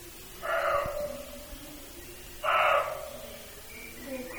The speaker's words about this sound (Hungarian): Ez egy őszbak.